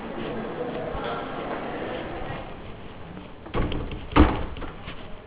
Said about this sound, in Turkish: onların kapıyı şey yapalım değil mi? Kapısak daha iyi olur.